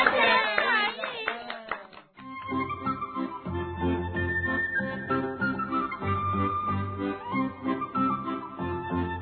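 A group of school students claps, at their teacher's request, in a brisk, dense burst of applause for about two seconds, then the clapping stops and steady tonal music carries on.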